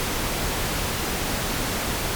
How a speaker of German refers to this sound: So hört sich rosa Rauschen an, wenn der linke und rechte Kanal direkt per Kabel verbunden sind.